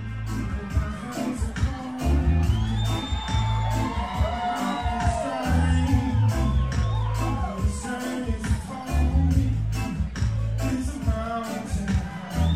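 A concert crowd at the Roxy on the Sunset Strip in Los Angeles cheers steadily and loudly for a band, with rising whoops and scattered shouts over a dense wall of voices and a low rumble underneath.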